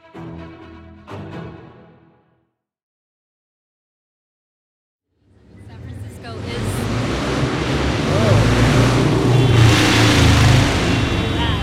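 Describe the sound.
A loud old-school motorcycle roars in after a short silence, its rough engine revving and swelling and staying heavy to the end, loud enough to set off car alarms, recorded from a parklet on Turk Street in the Tenderloin; a brief voice is heard at the start.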